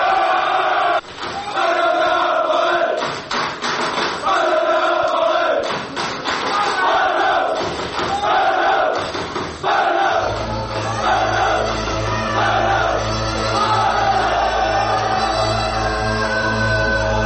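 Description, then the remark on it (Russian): A large crowd of football fans roars and chants wildly in unison, loud, with heavy thuds in the mix; a deep droning bass rises beneath them partway through. “Настоящий фанат футбола – это особый стиль жизни, особая татуировка и прическа, желательно бритая голова и идеология скинхедов, агрессия и тайные ритуалы, ненависть к чужакам – и сходки с диким ревом.”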